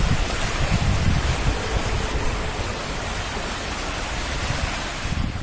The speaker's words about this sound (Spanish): Este es el sonido del agua en las calles que causaron importantes problemas de tráfico en varios puntos de la ciudad.